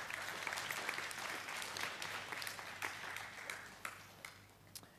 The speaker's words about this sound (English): Amen? And can we give the Lord a clap, please?